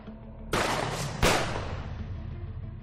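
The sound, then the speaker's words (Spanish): Two sharp, loud gunshots, fired at a woman on a busy footbridge over the Bernesga river at 5:15 in the afternoon, crack out less than a second apart, each leaving a long echoing tail that fades slowly over a low steady background rumble. “Eran las 5:15 de la tarde, una hora aparentemente tranquila, cuando de repente el sonido de varios disparos rompió esa aparente normalidad.”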